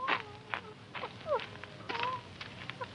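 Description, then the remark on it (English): A dog whines in a series of short, high-pitched gliding whimpers from the corner of a pen in the dark, fairly faint, with soft scuffling noises in between and no one talking. “Sounds like the whine of a dog.”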